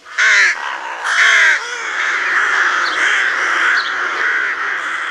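Two loud, harsh rasping rook caws ring out, followed by a steady, dense background of scratchy calling that continues to the end, with no one speaking.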